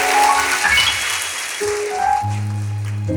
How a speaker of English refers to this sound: Come on, give the Lord a hand clap of praise as you take your seat.